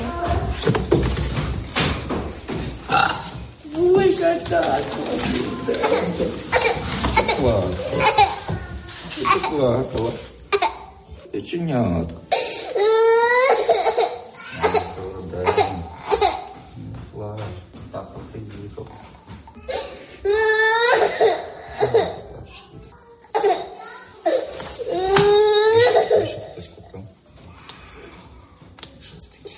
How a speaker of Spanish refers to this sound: La niña no deja de sollozar, abrazada a su padre, emocionada por ver a su padre después de tanto tiempo. Tan solo tiene 8 años y se ha pasado más de uno sin poder verle, sin poder besar a su padre.